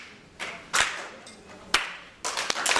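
An audience of community health workers claps in several short, sharp bursts, each clapping once in response to the leader's single clap. Each burst is a loose cluster of hands striking rather than one crisp unison hit, separated by quiet gaps with no talking.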